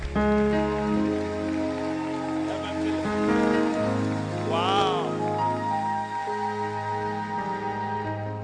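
A church audience claps steadily for the reverend after a Bible reading, a dense, continuous patter over sustained keyboard chords, with a brief wavering voice rising above the music midway through.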